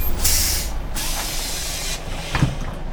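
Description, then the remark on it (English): A late-running bus pulls up with a loud, sharp hiss of air brakes, followed by steady engine rumble and a second shorter burst of released air, with no talking. “Where is the bus? I don't know. It's late today. Ah, here it is.”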